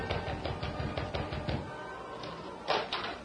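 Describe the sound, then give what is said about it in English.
A young sailor raps on the wooden door of the Stevens home with a quick, steady series of about eight or nine hollow raps, followed by a pause and then a single louder thump. “In the meantime, the young sailor rapped on the door of the Stevens home.”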